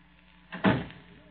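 A single door shuts with a soft, muffled thud, followed by a brief fading rumble against a quiet background.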